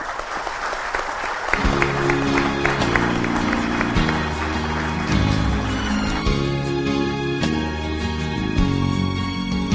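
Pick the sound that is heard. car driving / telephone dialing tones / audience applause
audience applause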